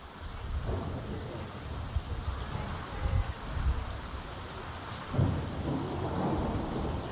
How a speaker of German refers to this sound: Freitagabend, 13. Januar 2023. 4 Tage regnet es jetzt schon in Folge. Die Wiese nahe des Tagebaus Garzweiler, südlich von Mönchengladbach, ist zu einem Sumpf geworden.